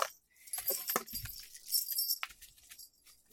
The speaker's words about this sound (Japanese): すごい、動くと、乳首の鈴が。これは、鈴がついてるのと、ポンポンがついてるのと、光るんだって。